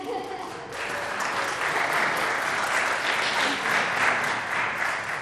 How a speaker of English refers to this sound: I'm very proud to announce a newly formed bell choir. This is the Boys and Girls Club at Central Bell Choir. We've just been practicing since September. So maybe a round of applause just for that.